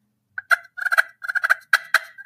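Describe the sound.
A run of sharp turkey clucks and short rolling purrs played on a friction call held flat on the hands to close off the holes on its bottom, fairly loud, coming in quick uneven bursts with no talking.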